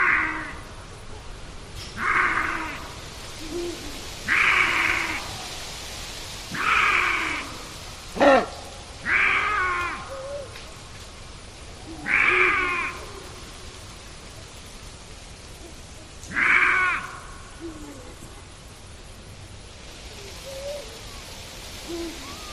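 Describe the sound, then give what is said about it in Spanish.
A female lynx, answering from far off during the lynx mating season, gives a series of about eight short, harsh, cat-like calls at irregular intervals, moderately loud against a steady background hiss, then the last few seconds fall quiet. “Y esa es una hembra, una lince, que responde a lo lejos.”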